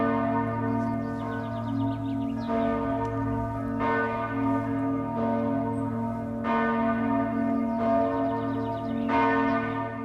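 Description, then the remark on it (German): The Kriesiglöckli, the largest bell of St. Michael church in Zug, Switzerland, rings at noon for the first time in 200 years. Its deep strikes fall every couple of seconds over a continuous, humming resonance that sustains between blows, loud, with no voices present. “Dann hat zum ersten Mal, und jetzt müssen Sie los, liebe Hörer, seit 200 Jahren wieder einmal das Kriesiglöckli geläutet, die grösste Glocke von der Kirche St. Michael.”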